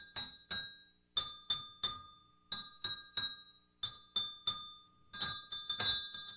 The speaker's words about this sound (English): And that's this bell. I'm not good at ringing bells. Like I think I keep you my keep hand on hit, it too long. Hitting it too much. There we go.